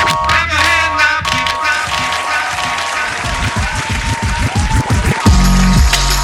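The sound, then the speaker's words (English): An audience claps for a stand-up comedian's opening act in a dense, steady patter of many hands, loud and continuous for several seconds, swelling slightly heavier near the end, with no talking over it. “Please clap.”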